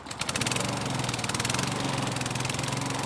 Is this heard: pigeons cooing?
no